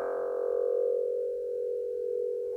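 A steady, continuous telephone dial tone hums at an even level for the whole stretch, a plain unbroken electronic drone with no talking over it.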